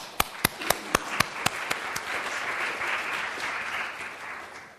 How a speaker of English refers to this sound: And I, for one, would like to give you a round of applause.